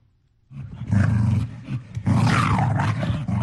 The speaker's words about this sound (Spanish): ¿Es un perro? Sí. Con rabia. Con mucha rabia.